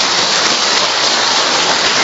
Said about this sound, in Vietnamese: Không vỗ tay được nữa ha. Vỗ tay to lên.